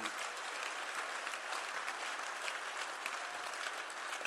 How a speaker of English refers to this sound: Are you clapping or you're trying to?